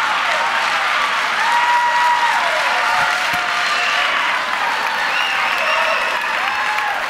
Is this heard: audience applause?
yes